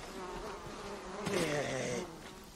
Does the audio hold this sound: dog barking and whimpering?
no